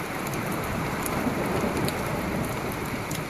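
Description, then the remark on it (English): Torrential rain from an arriving storm pours down in a dense, steady roar, loud throughout, with scattered sharper drops spattering on surfaces and no voices. “Starting to come in. So this is it, huh? This is us getting nailed.”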